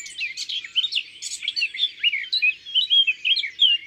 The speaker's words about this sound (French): la fauvette à tête noire. J'aimerais bien la voir. Ça va pas être facile. Elle est dans les buissons par là. Elle aime bien rester cachée dans les feuillages. Qu'est-ce qu'elle est bavarde ? Oui, une vraie pipelette.